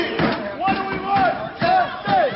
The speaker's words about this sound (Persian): آنچه ما می‌خواهیم عدالت است. این فریاد کارکنان فرودگاه شهر بوستون آمریکاست.